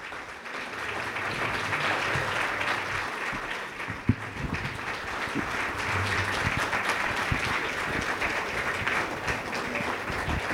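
An audience applauds its storytellers steadily for about ten seconds, a dense wash of many hands clapping at an even loudness, with a few sharper individual claps standing out.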